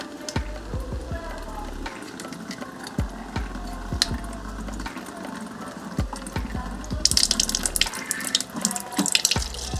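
Tap water runs steadily into a container to fill a coffee maker, a continuous splashing that brightens and grows louder near the end as the vessel fills, with occasional clunks and faint background voices.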